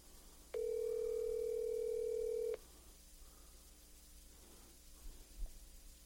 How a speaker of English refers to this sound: let me see if I can maybe possibly pull up a different line with him. See what happened to him. I got his phone ringing.